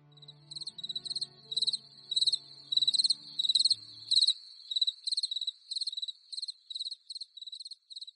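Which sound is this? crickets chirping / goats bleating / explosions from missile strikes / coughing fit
crickets chirping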